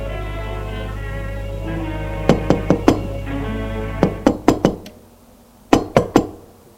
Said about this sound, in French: On a frappé à la porte. Ce qui l'a fait sursauter.